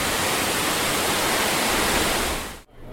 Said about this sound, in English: And just around the corner, two really pretty waterfalls. They've put up a Chinese-style pagoda there so you can sit and take in the view. Again, a sight and sound you wouldn't expect in Hong Kong.